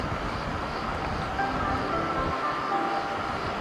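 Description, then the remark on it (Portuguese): Steady rumbling station ambience with a broad wash of mechanical noise and faint metallic tones as a CP Lisboa suburban train from Alverca to Monte Abraão enters platform 4, constant and fairly loud with no voices. “Senhores passageiros, o comboio suburbano CP Lisboa, procedente de Alverca e com destino a Monte Abraão, vai dar entrada no número 4.”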